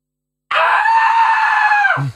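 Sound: imitated scream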